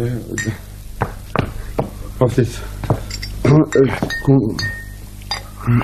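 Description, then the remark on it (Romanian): A glass bottle clinks several times, with short bright knocks and a lingering ring, scattered irregularly while a person speaks over it. “Și dă-mi sticla aia.”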